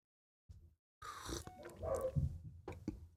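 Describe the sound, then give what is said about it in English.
A cat and dogs scuffle and play upstairs in short bursts of rough, growly noise and thumps, somewhat muffled, after a brief quiet start, with no one talking. “And right now I hear the cat and the dogs frolicking around upstairs.”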